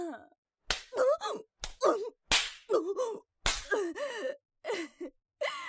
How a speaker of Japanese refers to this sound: 雑にビンタされるの好きでしょ。